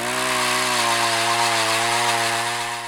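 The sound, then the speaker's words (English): A power auger drilling through lake ice in winter to reach the water below for scientific measurements: a loud, steady two-stroke engine drone with a buzzing, harmonic whine that wavers slightly in pitch and eases a little at the end. No voices. “Today, Ladeg is on the ice with 2 graduate students, using a power auger to access the water below the ice for an array of measurements.”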